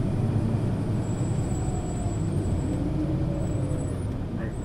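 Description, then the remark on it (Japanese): From inside, a bus rolls to a full stop: its heavy engine rumble stays steady, a thin high brake whine runs over it, and the noise eases slightly at the end. “はい、完全に停車するまでそのままでお待ちください。”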